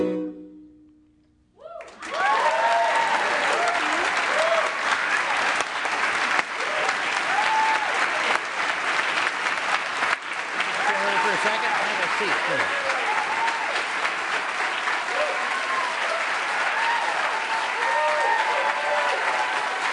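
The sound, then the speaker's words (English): Loud, sustained applause from a large audience, a dense wash of clapping that starts abruptly after a brief quiet moment and continues steadily, with scattered voices and whoops mixed in. “To hear your own applause?”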